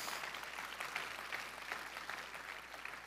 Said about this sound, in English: Yeah, you can give that a round of applause.